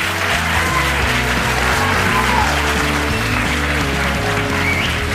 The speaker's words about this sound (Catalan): Dos centres que han vingut aquí, en aquest centre cívic d'Urgell, i acompanyats d'una claca per animar ben fort els seus representants. Si us plau, un fort aplaudiment per l'Institut d'Almenar i l'Institut La Plana de Vic.